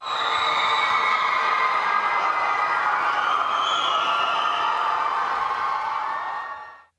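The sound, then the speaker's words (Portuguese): Half of a large stadium crowd cheers and roars, celebrating the Mutantes winning the Copa Bola de Sorvete, in a steady, dense wash of voices, with high whoops rising above the mass before the sound fades out at the end. “Metade do estádio comemorou, fazendo festa.”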